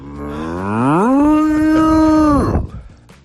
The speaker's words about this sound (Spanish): ¿Por qué no nos vamos a ver cómo mugen las vacas? Me apunto. ¡Mira, mira!